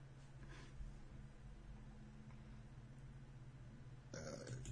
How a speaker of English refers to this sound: That was awful. Oh, so you get to burp on camera, but I can't put my hilarious joke in.